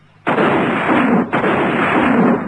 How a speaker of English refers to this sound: Now, who the devil's that? Couldn't be Biggs, could it? Well, what would Biggs be shooting at?